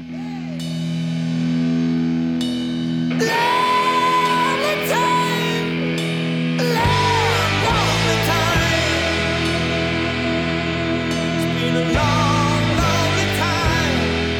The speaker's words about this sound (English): Hammond organ.